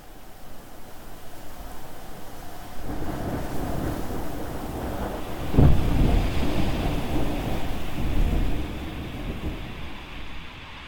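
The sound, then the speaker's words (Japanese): A storm roars steadily, rain and wind hissing against a window, growing heavier after a few seconds with a deep low rumble midway. No voices are heard. “雨が窓を打ち鳴らし、風はすべてを吹き飛ばさんとするばかり。”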